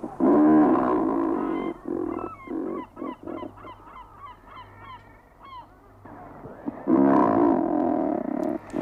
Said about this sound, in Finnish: Ja ääntelehtii pohjoisen pingviiniksikin kutsuttu ruokki.